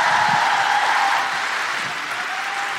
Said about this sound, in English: Please keep that incredible applause going for a guilty feminist favourite.